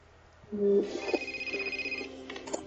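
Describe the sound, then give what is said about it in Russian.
A telephone rings with a bright electronic tone, a steady high chime over lower warbling notes, fairly loud for a couple of seconds with no one talking; it is John calling. “Он нам сейчас, он сейчас звонит, как это будет на английском?”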